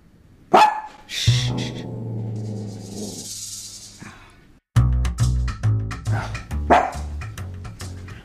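Dogs bark loudly, opening with a sharp yelp and a long drawn-out howl, then a brief pause before a rapid run of overlapping barks.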